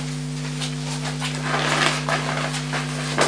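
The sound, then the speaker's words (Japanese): A dog pants in quick, breathy bursts that grow a little louder toward the end, with a steady low electrical hum underneath and no one talking. “ワンワン、ここにいるか。こっちにいるね。”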